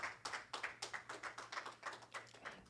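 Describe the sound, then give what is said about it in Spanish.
An audience claps for the Lord together in a steady, quick rhythm, about a dozen sharp claps in under three seconds, loud and unbroken by speech, with a faint low hum underneath. “Dele un aplauso fuerte al Señor, que Él es bueno.”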